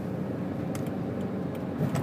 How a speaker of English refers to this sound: As you can hear, I am driving a car at this moment through the Randstad of Holland. It's evening, 6 o'clock, even 6 minutes past.